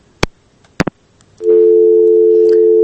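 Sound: telephone busy tone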